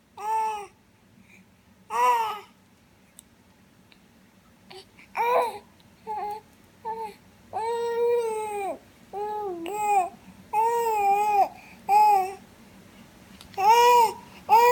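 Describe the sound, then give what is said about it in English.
A baby boy babbles loudly at his toys on his playmat in short bursts of bright, high-pitched vocal sounds, pausing between outbursts and growing louder and more insistent toward the end, over a low steady background hum. “So you can see him getting louder because the toy's not talking back, and there's our dog, Rudy, making a cameo in the video here.”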